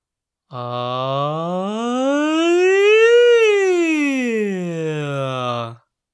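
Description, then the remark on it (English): A single sustained sung voice slides smoothly up in pitch to a peak and back down again, like a siren, going from an 'ah' to an 'e' vowel, held steady and fairly loud for about five seconds with no other sounds. “Lastly, we'll do a siren slide. We're going to go from ah to e like this.”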